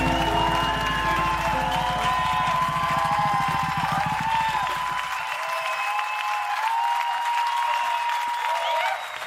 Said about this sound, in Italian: Un bellissimo disco, una registrazione dal vivo, evidentemente lo potete capire dagli applausi fragorosi.